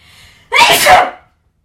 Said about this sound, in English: I'm gonna sneeze, so hang on. Bless you in advance. Thank you in advance.